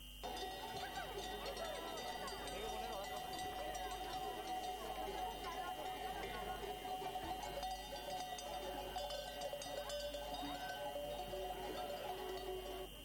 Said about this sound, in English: Flocks of sheep are on the streets of Madrid. The animals have made their way through the center of the Spanish capital to follow ancient migration routes.